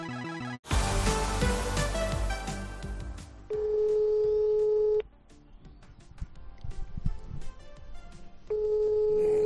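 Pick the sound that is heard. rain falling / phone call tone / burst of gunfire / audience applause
phone call tone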